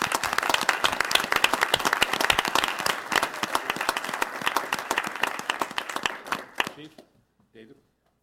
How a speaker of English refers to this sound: And with that, let's give a great round of applause to 35 years of service.